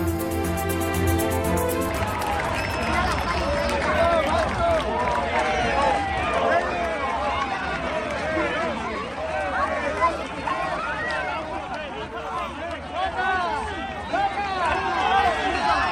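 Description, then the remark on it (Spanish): A large crowd celebrates the Peruvian bullfighter Roca Rey as he is carried out shoulder-high through the main gate of the Plaza de Toros de Valencia. Many voices shout, cheer and chant loudly and without a break. A short steady tonal sound is heard at the very start. “Estamos escuchando la salida a hombros de Roca Rey por la puerta grande de la Plaza de Toros de Valencia.”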